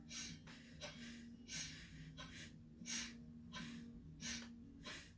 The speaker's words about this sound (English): So the breath out is just like a sniffle out, and the breath in is just like a sniffle in. When you exhale out, the belly goes in.